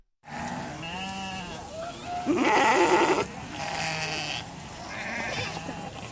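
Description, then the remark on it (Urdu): Several sheep and goats bleat in overlapping, wavering cries, one after another, with a louder, harsher bleat in the middle, over a steady background of a crowded herd of livestock in Somaliland being moved for export to Saudi Arabia for sacrifice at the Hajj. “ساحل سے پرے دور افتادہ علاقے سے لے کر سومالی لینڈ کی دارالحکومت ہرگیسہ تک لاکھوں بھیڑیں اور بکریاں قرن افریقہ کی اس چھوٹی سی جمہوریہ میں سفر میں ہیں.”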